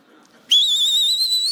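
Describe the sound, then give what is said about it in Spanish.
After a brief quiet moment, a whistle is blown loudly and held as one long, shrill, steady blast with a slight wavering pitch, piercing, lasting over a second. “Se rompió el silbato.”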